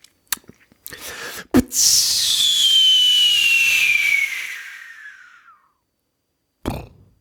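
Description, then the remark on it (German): A person imitates a firework rocket with their mouth: a few sharp clicks, then a long, sliding whistle falling in pitch for several seconds, followed by a short burst after a pause. “An der Explosion am Ende muss nur arbeiten, aber ich finde das Anzünden und Wegfliegen finde ich großartig.”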